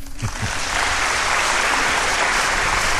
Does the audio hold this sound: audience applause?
yes